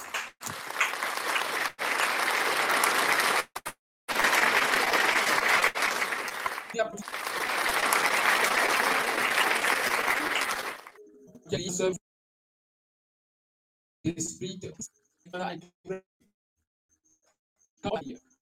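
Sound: audience applauding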